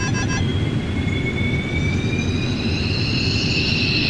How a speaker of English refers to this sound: Here's the initial turbine start. That's high!